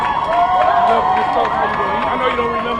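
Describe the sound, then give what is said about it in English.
A crowd of supporters cheers Adnan Syed as he walks out of a Baltimore courthouse, many overlapping voices rising and falling in a loud, steady roar, with scattered claps and whoops breaking through. “He walked out of a Baltimore courthouse and was met with cheers from supporters.”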